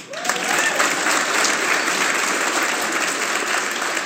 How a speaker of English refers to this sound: Round of applause